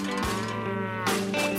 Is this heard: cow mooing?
yes